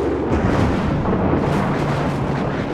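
A deep, continuous rolling rumble of thunder, loud and heavy in the low end, churning steadily for a few seconds with no voices over it.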